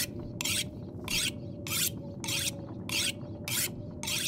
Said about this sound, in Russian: Опа, точильный камень. Можно как бы поточить, наверное, сейчас топоры наши. Нож, действие, заточить.